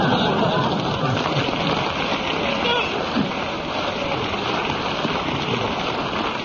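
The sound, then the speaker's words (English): An audience applauds in a dense, steady wash of clapping that holds at an even, fairly loud level for several seconds without fading, in response to a story about someone's infancy. “I've never heard of anybody's infancy getting a round of applause before.”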